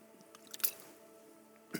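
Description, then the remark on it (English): A person takes a quick sip of water: soft wet mouth noises and a small swallow, followed by a brief click near the end, with no talking. “Excuse me, I need water.”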